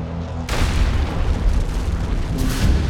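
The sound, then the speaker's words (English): A low droning hum gives way to a sudden, loud explosive boom as Flight 11 crashes into the North Tower of the World Trade Center at 470 miles per hour, hitting the 96th floor, followed by a sustained roaring rumble that stays heavy to the end. “He turned his camera to follow the plane and captured the only known footage of Flight 11 as it slammed into the North Tower.”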